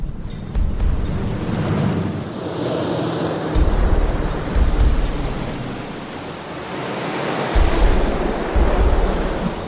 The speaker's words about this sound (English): We've sealed up the cockpit area. We've taped it up so it's on there good. It's tight. And we've left the plug open. And we're going to have the water come over the kayak and see just how much water goes into the plug.